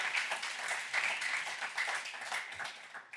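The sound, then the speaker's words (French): Audience applause given to the Lord, a steady wash of many hands clapping at once, dense and crackling, holding an even moderate loudness for several seconds without a break. “Encore une bonne main d'applaudissement, Seigneur, pour ça.”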